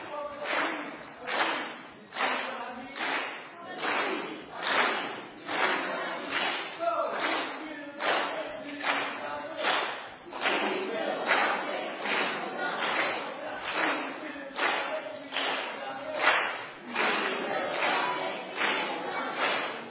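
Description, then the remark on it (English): The green team shouts a rhythmic cheer together, voices chanting in unison over steady, regular claps or stomps that keep a quick beat, loud and sustained the whole time. “All right, in that case, green team, would you come up and give us another cheer?”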